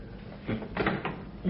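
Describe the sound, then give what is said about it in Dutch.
A few short rattling clunks, like a door handle being jiggled and tugged against a locked door that won't give, several quick jerks in a row. “Open die deur, Buk.”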